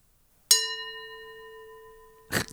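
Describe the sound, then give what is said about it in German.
A single bright gong strike rings out with a sustained metallic tone that slowly fades over about two seconds, followed by a short noisy burst at the end. “macht Rieke jetzt hier auch nochmal ganz zum Schluss den weltbekannten darauf, worauf ihr alle Gong. Wartet.”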